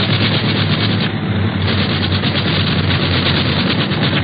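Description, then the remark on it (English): A loud, rough airplane engine roars continuously as the plane, out of control after a dogfight in the clouds, goes into a nosedive, a dense droning rush with a low throbbing hum underneath, holding steady for several seconds with no voices. “Look, that other plane's out of control. He's going into a nosedive.”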